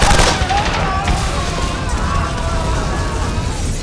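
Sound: machine gun fire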